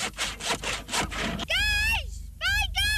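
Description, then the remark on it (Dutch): Rhythmic back-and-forth sawing of wood, several quick strokes, as children build wooden huts at the Jeugdland Noord project north of the IJ, followed by high children's voices calling out in bright, rising-and-falling tones. “En voor een kwartje per dag kan ieder kind hier naar hartelust aan een hut komen timmeren.”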